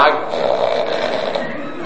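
A person who fell asleep during a Bible reading snores with a raspy, wheezing sound, a steady breathy rasp that holds at a fairly loud level for a couple of seconds without a clear break.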